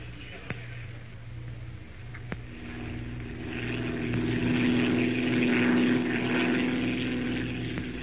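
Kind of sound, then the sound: vehicle, airplane engine in flight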